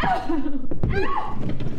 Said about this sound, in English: The following sounds are typical. Stop crying. This is a woman being punched in the face.